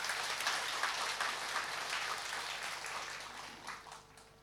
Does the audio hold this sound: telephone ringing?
no